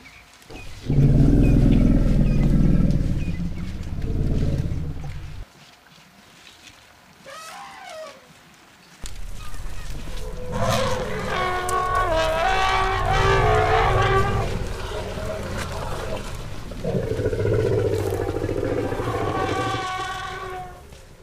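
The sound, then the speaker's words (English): A herd of elephants moving across the savannah: a heavy low rumble of thudding steps, a brief quiet with a rising call, then loud, sustained trumpeting blasts that carry on for several seconds, with no talking. “A herd of elephants is moving across the savannah. The sound is clear and vivid. The soft thud of the step, maybe a distant trumpet.”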